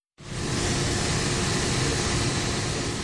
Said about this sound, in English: Only the hissing noise of air conditioners was heard at the usually busy full courtroom in Cameroon's capital Yaoundé on Monday.